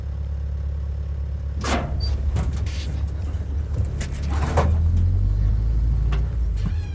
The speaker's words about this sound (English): In einem alten Bus, von der Art eines größeren Polizeiwagens.